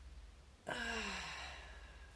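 A single drawn-out yawn while stretching the arms out, starting abruptly, then sliding downward in pitch and trailing off over about a second, with a low steady hum underneath and no talking.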